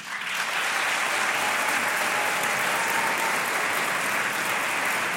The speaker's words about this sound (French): On va voter pour ou contre mettre des patins pour faire de la rando en nature. Alors par applaudissement, qui est pour ?